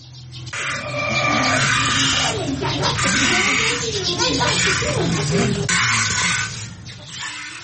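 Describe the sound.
Milk squirts in steady, rhythmic hissing streams as a cow is milked by hand at home, the spray loud and continuous for several seconds, with faint voices murmuring underneath.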